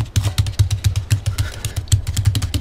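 Paper clips tapped in a quick, steady patter of light clicks with soft thumps underneath, imitating a small, happy dog's footsteps trotting down the road. No one speaks.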